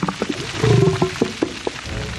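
A gray whale's low underwater calls in the waters off the Bay Area coast: a groaning moan followed by several short, knocking grunts spaced irregularly, clear against a faint watery hiss, with no voices.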